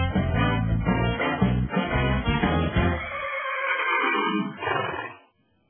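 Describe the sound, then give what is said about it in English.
A horse whinnies loudly, starting with a harsh, rumbling burst before breaking into a wavering, descending call that trails off after about five seconds. “I've got another Daily Winnie, Glenn.”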